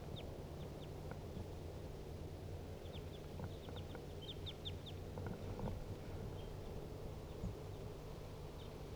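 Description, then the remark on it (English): Two wild birds sitting in the tree directly above a decoy cage call in short, high chirps, scattered in quick bursts and fairly faint, over a steady low droning hum. No one speaks. “Two wild birds calling.”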